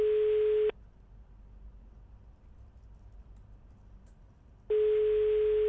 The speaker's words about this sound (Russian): Так, минутку у нас, давайте, сейчас мы быстренько. Гудки пошли.